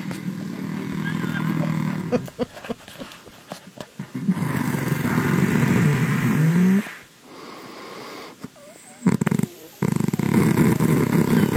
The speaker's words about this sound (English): the one thing that I would never, ever do is relive that moment of … snoring